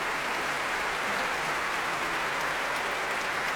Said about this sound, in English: Here she is returning, smile on her face and on that of Hugh Watkins, who joins her, applauding both Alina Ibragimova and the BBC Symphony Orchestra.